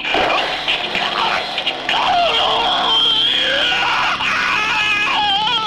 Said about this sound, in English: That was a good scream. You know it. Now we've got it on tap.